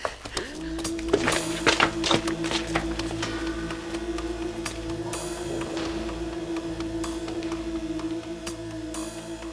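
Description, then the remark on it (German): Irregular footsteps and knocking thuds, clearest early on, sound against a steady low mechanical hum that drones through the whole stretch, with scattered sharp clicks later and no voices. “Schritte! Ich höre Schritte!”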